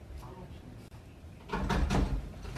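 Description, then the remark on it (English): A few sharp knocks on a classroom door, three or so in quick succession, fairly loud after a quieter stretch of room noise, while students stay quiet inside during a shooting. “So they're all in the classroom, and there's a knock at the door.”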